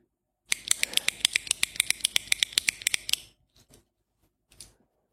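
A ballpoint pen clicks rapidly, about fifteen sharp, bright clicks in a steady run, followed by a brief pause and a few softer, scattered clicks. No one speaks.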